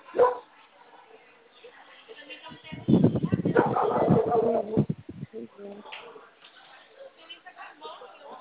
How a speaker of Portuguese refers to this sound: É um barulho do cachorro da vizinha lá que o dia todinho assim.